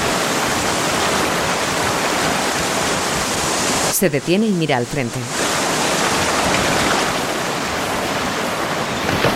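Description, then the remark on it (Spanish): A strong river current rushes over large rocks in a loud, steady roar that fills the whole stretch, as a man walks along the bank among the rocks, with a man's voice briefly speaking over it partway through. “Camina sorteando grandes rocas próximas a la fuerte corriente.”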